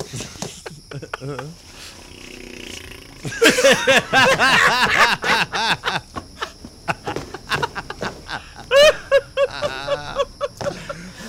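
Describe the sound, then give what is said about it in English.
A man pants heavily and rhythmically while running in place, harsh breaths mixed with voiced, sung-sounding bursts. The breathing swells loud in the middle, then comes in shorter gasps. “He's breathing hard because he's running in place.”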